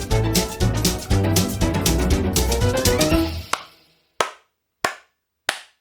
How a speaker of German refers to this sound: hat gerade viele Tätsch bekommen, wo sein Handy hat angerufen. Weil es nicht in den Flugmodus geschaltet hat, hat es gerade nochmal 10 Schläge obendrauf gegeben.